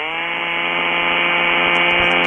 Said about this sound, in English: It sounds like a chainsaw or a weed whacker. Yeah, it's a chainsaw.